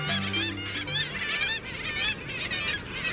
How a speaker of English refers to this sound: The cry of the kittiwake rings out across the Northern Ocean. Kittiwakes were well known to even the earliest northern seafarers. Named for its rhythmic calls, the black-legged kittiwake, as it's known in North America, is a dapper oceanic gull.